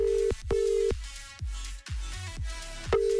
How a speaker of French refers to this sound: Troisième sonnerie et ça décroche.